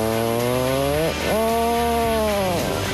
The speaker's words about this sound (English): There you go. That's the sound of a real puffin.